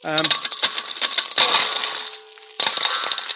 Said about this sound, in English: Now, some of you are quite concerned. You think they're coppers. They're actually pound coins. Sorry, I brought so much to give to the work of the Lord today.